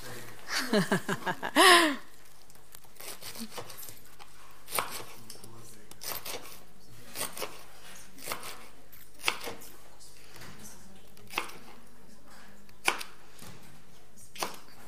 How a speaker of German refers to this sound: Weißt du was, kannst du mir bitte die Kokosnuss öffnen? Also, ja, die Büchse. Ja, ich habe keine frische Kokosnuss gefunden.